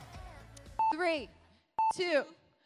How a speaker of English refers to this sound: Okay, let's go and get that timer up.